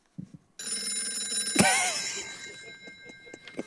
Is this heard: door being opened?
no